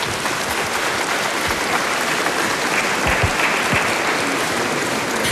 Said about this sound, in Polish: Dziękujemy bardzo serdecznie, gromkimi oklaskami.